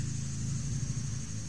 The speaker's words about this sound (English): You know, that's what we hear, is a lawnmower instead of wild creatures.